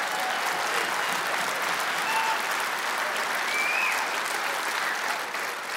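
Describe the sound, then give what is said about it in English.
An audience claps steadily for several seconds, a dense, even wash of many hands with no pauses or rhythm, staying loud throughout before easing slightly at the very end. “Wait, before you clap.”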